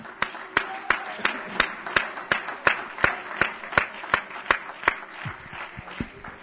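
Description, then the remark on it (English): An audience claps hands in worship of the Lord, in a steady, brisk unison rhythm over a murmuring crowd, the sharp claps fading out near the end. “Would you worship the Lord with a hand clap right now?”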